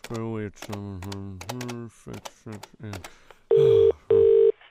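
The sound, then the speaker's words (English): A phone number being dialed for the single phone call a police officer allows: after a stretch of people talking, two loud, steady electronic telephone tones sound, each lasting about half a second with a short gap between. “you just get to make one phone call, all right? Just one call only.”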